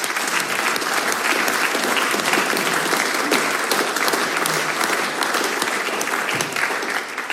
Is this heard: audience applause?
yes